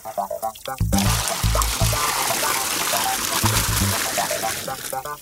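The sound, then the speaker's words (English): Water pours steadily into a big yellow tub to give a dog a bath, a loud rushing splash lasting several seconds, with brief voice-like sounds at the start and a few faint low tones underneath. “Hana and Te Pōpō poured some water into the big yellow tub.”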